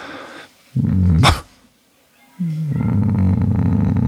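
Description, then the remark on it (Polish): A dog yawns with a throaty, bark-like voice: a short rising groan, a brief pause, then a longer drawn-out moaning yawn, fairly loud, with no talking. “Ziewanie psa. No coś takiego przez szczek.”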